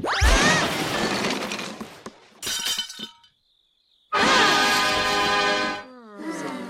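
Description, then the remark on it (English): A loud crash as a small dog lifting weights staggers and smashes through a wooden floor, splintering and clattering in several bursts with a brief pause, then a final rattle of falling debris. “Rodrigo, trembling, licks his lips, staggers from side to side, and crashes through the floor.”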